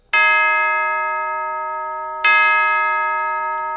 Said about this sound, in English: Chimes.